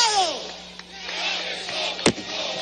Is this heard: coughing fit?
no